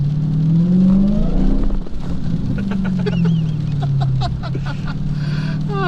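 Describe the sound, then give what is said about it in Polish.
A powerful 500-horsepower car engine roars loudly and revs as the throttle is lightly touched to pull away, its deep tone rising and then easing back, with a string of short high-pitched chirps toward the end; no one speaks. “Chciałeś ruszyć, tak? Musnąć gazem. Na 500 koni.”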